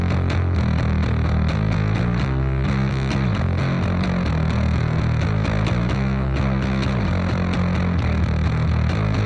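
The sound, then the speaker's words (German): A heavily distorted rock bass line plays alone, loud and unbroken, its gritty, buzzing low notes shifting pitch in a repeating pattern, with no voices over it. “Und jetzt hören wir mal in die Basslinie von dem Song rein.”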